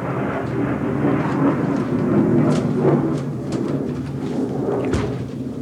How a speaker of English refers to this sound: Competition from the plane.